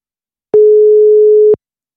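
A single steady telephone ringing tone sounds once for about a second, clear and fairly loud, with silence before and after and no voices.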